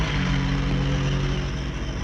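A car engine drones steadily and fairly loud, a low rumbling hum that holds even throughout with no voices, as if the vehicle is rolling along.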